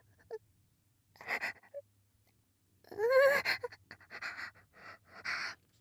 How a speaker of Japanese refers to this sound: クンクンする、鼻息が。太ももにかかって、くすぐったい。